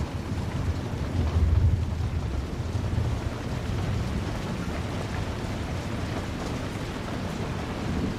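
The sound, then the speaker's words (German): A raging thunderstorm over a heath, heard from inside a mill with thick stone walls: steady heavy rain hisses throughout, with a deep rumble of thunder swelling low around the second and third seconds before fading back into the downpour. No voices. “Trotz des tobenden Unwetters fühlst du dich hier oben vollkommen sicher und geborgen.”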